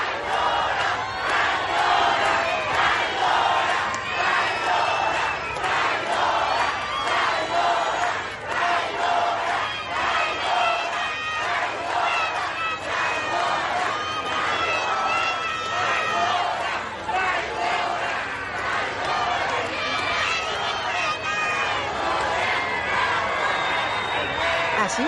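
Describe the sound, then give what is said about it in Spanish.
A large protest crowd at a weekend demonstration shouts and chants against Governor Laida Sansores, demanding her removal and resignation, many voices overlapping in a loud, continuous roar with rhythmic rising and falling bursts of yelling throughout. “Así los gritos contra la gobernadora Laida Sansores”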